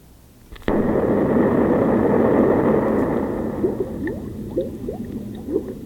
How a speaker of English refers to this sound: Bubbles? Yeah, it's bubbles. Why would they put that after an explosion? Are they threatening to turn us into bubbles? No. It sounds so much like rain, doesn't it?